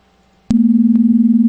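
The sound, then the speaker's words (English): A steady telephone dial tone switches on abruptly after a brief quiet stretch and holds at a constant, fairly loud pitch with a slight pulsing waver, with no voices. “Nice dial tone.”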